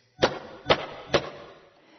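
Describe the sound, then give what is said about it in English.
Three sharp knocks on a door at an even, unhurried pace, each a solid rap followed by a short ringing decay. No one speaks. “I think I'll knock first, just in case.”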